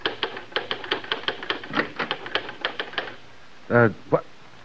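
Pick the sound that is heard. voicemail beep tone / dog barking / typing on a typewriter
typing on a typewriter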